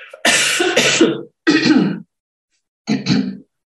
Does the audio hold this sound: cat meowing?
no